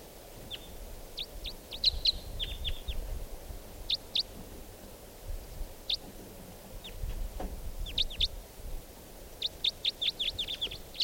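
wild birds calling

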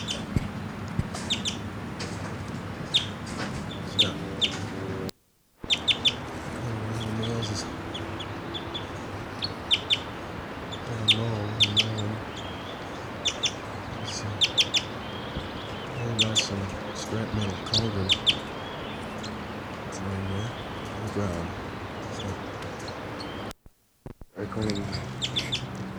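bird chittering

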